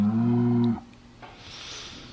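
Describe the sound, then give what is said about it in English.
A cow lets out one loud, low moo that holds steady for under a second, then cuts off, leaving a quieter stretch of soft background noise. “Well, cows, talk to everybody but me.”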